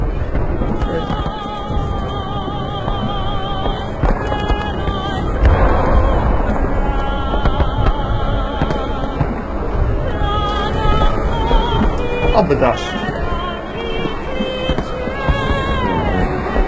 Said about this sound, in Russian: А, салют?